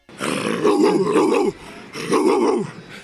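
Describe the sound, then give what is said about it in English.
Keyshawn Johnson imitates a barking dog on a broadcast with two loud, drawn-out, growling barks, separated by a brief pause. “Great job by her on the broadcast, because we got Keyshawn Johnson barking.”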